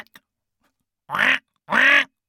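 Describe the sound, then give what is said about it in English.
A person imitates a duck with two drawn-out, nasal, sinister quacks, each lasting about a quarter second and separated by a brief pause. Both are loud, with a low, menacing tone. “do some sinister quacking, please.”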